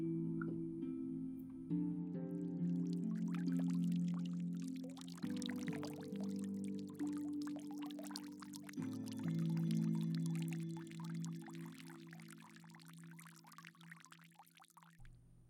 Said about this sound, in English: And as you sit back and relax, controlling your breath as you bring your mental focus back to you, you can push out from your body and hear that sound of the babbling brook off in the distance.